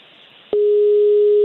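A phone call's ringing tone while calling a number in Sweden: one steady, loud electronic beep that starts abruptly with a faint click after a near-silent moment and holds unbroken to the end.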